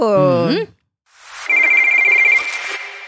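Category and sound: signal or alarm, telephone ringing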